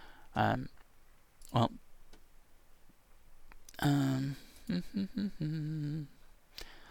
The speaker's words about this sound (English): Anyway, sorry about that. I just, I'm clicking a link. Let's see if it works.